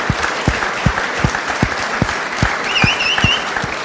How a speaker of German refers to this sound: Ich denke, das verdient Applaus.